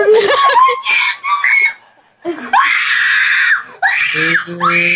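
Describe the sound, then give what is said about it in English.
Excited fans let out high-pitched, shrieking screams in several loud bursts, with a short pause partway through before the wailing resumes, ending in a sob-like, wavering cry. “That's real emotion coming from somebody.”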